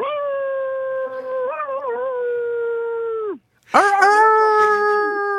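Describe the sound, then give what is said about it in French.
A person imitates a coyote howl at the Maison de la Radio in Paris: one long, steady, wavering howl that trails off, a brief pause, then a second loud howl breaking in with a sharp yipping rise. “Et ça donne quoi alors si vous nous le faisiez entendre, ce cri de coyote à votre sauce ?”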